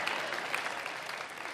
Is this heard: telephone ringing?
no